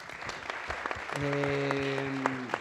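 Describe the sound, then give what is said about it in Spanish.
Steady audience applause with sharp scattered claps throughout, joined about halfway by a sustained low buzzing tone that holds under the clapping until near the end. “Justo a tiempo, aplausos, por favor.”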